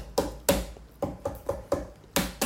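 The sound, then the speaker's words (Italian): Hollow knocks on a watermelon to test its ripeness, about eight dull thumps in a loose rhythm, fairly loud, with no talking. “Bisogna fare il toc toc per capire.”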